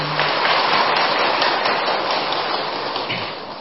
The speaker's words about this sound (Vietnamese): Như vậy thì xin tán thán quý vị Phật tử bằng một tràng pháo tay.